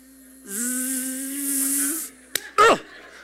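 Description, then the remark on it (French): A mosquito's thin, steady whining buzz holds fairly loud for about a second and a half, then cuts off, followed by a sharp click and a short burst of vocal sound. “Non, c'est le moustique! C'est le moustique!”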